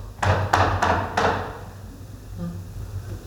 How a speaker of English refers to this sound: He's knocking on the door. And a servant girl came up and answered the door.